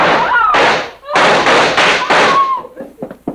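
impact, gunshot

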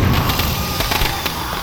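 sound effect, firecrackers exploding

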